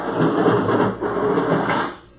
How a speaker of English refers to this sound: Okay, I'm going to fill the lock. There goes the outer door.